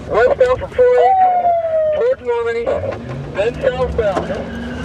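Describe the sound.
A police siren wails in steady, shifting tones as a patrol car speeds along, with engine and road noise underneath and voices talking over it.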